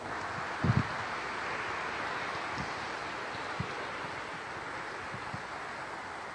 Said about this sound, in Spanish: Nuevamente, yo pido a los catequistas a que se pongan en pie y vamos nuevamente a darle gracias, no solo con nuestra oración, sino que le damos a ellos un fuerte aplauso.